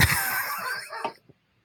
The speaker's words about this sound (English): Can you edit out the dog? Because he's really fucking annoying.